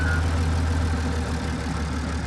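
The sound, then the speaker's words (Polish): A narrow-gauge train, number 300, departs from Nowy Dwór, its diesel engine rumbling with a steady, low, throbbing drone and a faint higher whine, holding an even loudness throughout without any voices. “Pociąg numer 300, odjazd.”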